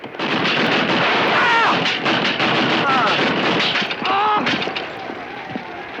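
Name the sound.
gatling gun firing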